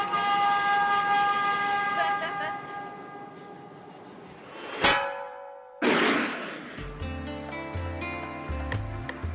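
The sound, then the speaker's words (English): A car over 100 years old runs and honks its horn in long, steady, reedy tones, then a sharp clatter and a burst of hissing noise give way to choppy, stepping horn notes and mechanical rumble. “Over 100 years old and still running smoothly. Driving one of these is pretty cool.”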